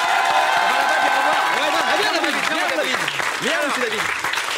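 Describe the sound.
Loud, sustained applause from an audience, a dense steady wash of clapping with a few whoops and raised voices rising over it.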